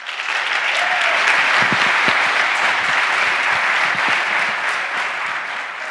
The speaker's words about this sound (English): Please welcome, with the anniversary edition applause,